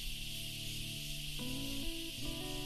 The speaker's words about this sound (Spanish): También escucharemos, en algunos tramos, el coro de cigarras del caluroso atardecer asunceno, como una especie de banda sonora.